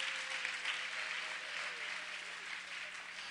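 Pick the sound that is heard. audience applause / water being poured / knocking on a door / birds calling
audience applause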